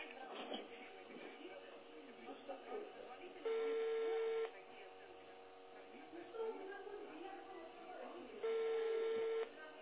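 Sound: telephone number being dialed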